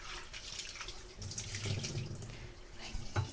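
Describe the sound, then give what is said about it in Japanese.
Tap water runs steadily into a sink while cherry tomatoes, their stems removed, are rinsed, with soft splashing and a few low knocks and thuds as they tumble and shift under the stream. “ヘタの周り結構汚れがついているので、ヘタを取ってからお水で洗います。洗っています。”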